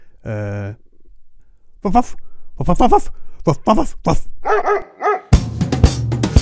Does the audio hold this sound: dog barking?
yes